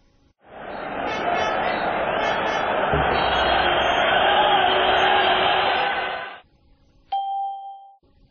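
A loud, sustained roar of a stadium crowd cheering at a football match playing on a TV cuts off abruptly, followed by a short ringing chime.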